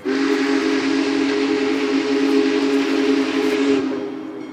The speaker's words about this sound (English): And from miles away, you can hear the whistle. Then we see the headlights in the distance, and before we know it, the Big Boy, 133 feet long, comes barreling past us, bells ringing and steam whistle blaring.